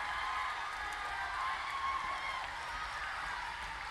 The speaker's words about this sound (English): Stomp. Clap. Shout. You're not doing it. Stomp. Clap. Shout.